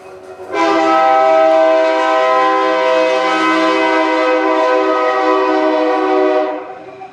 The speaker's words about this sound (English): I love that train.